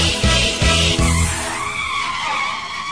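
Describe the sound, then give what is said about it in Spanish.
Dad's car engine revs in loud, rhythmic bursts while its tires skid and squeal, the screech smearing into a sustained high whine that stays loud throughout. “En el auto de papá nos iremos a pasear.”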